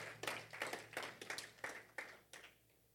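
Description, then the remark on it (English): A group claps for the Lord Jesus during a sermon, in a steady, slightly uneven rhythm, about nine sharp claps over three seconds, fairly soft, with a low hum underneath and no talking. “Clap for the Lord Jesus.”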